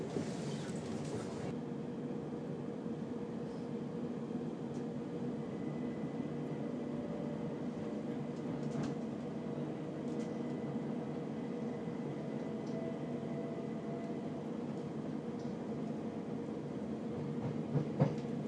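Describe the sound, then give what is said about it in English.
A train departing Clapham Junction on a non-stop service to London Victoria rolls steadily along the rails, a continuous low rumble and hum with faint metallic creaks, heard from inside the carriage throughout with no one speaking. “On departure from Clapham Junction, this service will be non-stop to London Victoria.”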